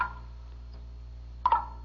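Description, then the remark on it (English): Slow, irregular water drips plink one at a time off a big leaf, a soft drop followed by a quick pair of brighter ringing drops, over a low steady hum. “It's water. It's dripping off that big leaf.”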